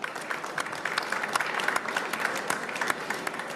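An audience applauds steadily, a dense wash of many hands clapping with sharp individual claps poking through at a fairly even level throughout.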